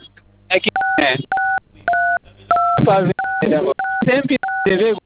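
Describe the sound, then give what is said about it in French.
A string of about eight short telephone keypad (DTMF) beeps, each a steady dual-pitched tone, pressed one after another in an irregular rhythm as a man touches his phone's buttons during a call, interleaved with someone talking over a band-limited phone line. “Évitez de toucher les boutons de votre téléphone, monsieur, s'il vous plaît.”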